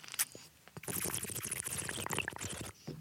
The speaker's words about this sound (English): Wait, I gotta take a sick bong rip.